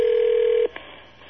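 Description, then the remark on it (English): A telephone line carries a single steady mid-pitched tone for over half a second, which cuts off abruptly, followed by a brief faint blip as the number is dialed. No one speaks. “we can pick up the 2600 hertz whistle, the Captain Crunch whistle, while Lucky's dialing over there”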